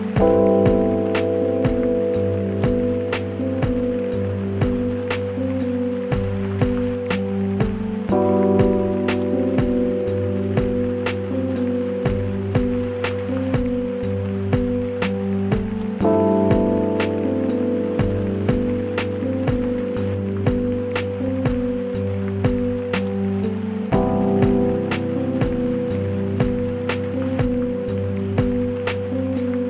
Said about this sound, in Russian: За это я и полюбил дождь. Он приносит запах неба. Когда утром идет дождь, я не пересаживаюсь на другой поезд, а иду пешком прямо со станции.